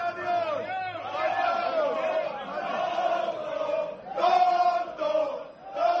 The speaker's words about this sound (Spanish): Este es el sonido que se ha producido en ese palco. Esto le gritaban los aficionados al padre de Haaland.